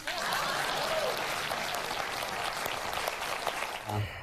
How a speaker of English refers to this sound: Please clap.